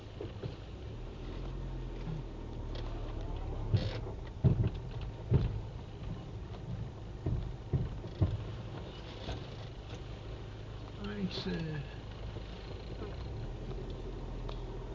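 A steady low engine rumble with a series of irregular, sharp knocks from underneath a slowly reversing vehicle, several thuds bunched together then tapering off, prominent over the drone.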